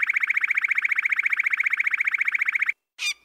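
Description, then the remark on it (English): A loud electronic car alarm tone, of the kind heard all the time in New York City, pulses rapidly and steadily for a few seconds, then cuts off, followed by a brief harsher burst of a different alarm pattern. “And then it dawned on me that the pattern of the bird song was exactly like one of the parts of that car alarm sound that I hear all the time in New York City.”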